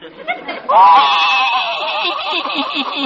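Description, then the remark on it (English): A horse crying sound effect for the horse Silver Moon: a loud, quavering, whinny-like wail that starts after a brief short burst and trembles steadily for a few seconds, seemingly a voice imitating a sobbing horse. “I can't stand to see a horse cry.”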